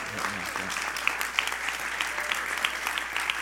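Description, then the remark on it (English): A room full of people claps steadily, dense overlapping hand claps forming a continuous wash of applause at moderate volume, with a brief murmur of voices at the very start. “They are smart men, because I was wondering if they were going to clap for themselves, because I would have called them out.”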